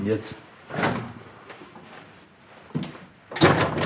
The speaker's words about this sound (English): He walked across the large room to the balcony doors and opened them up.